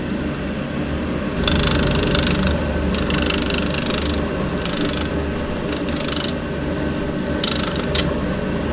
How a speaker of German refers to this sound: Das war jetzt das Schleifen eines Absatzes. So hört sich das dann im Allgemeinen an.